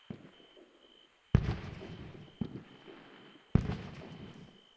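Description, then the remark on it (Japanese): Three fireworks burst one after another, each sharp boom trailing off into a fizzing, crackling scatter of small sparks, with no voices. “今のみたいな咲いた後、小さくパラッパラッパラッってなるやつが好きなんですよ。”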